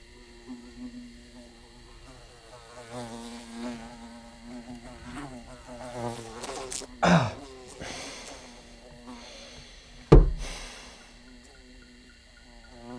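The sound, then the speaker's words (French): A fly buzzes in a steady, wavering drone that rises and falls throughout, broken by two sharp, loud thumps partway through. “Je supporte pas les bourdonnements.”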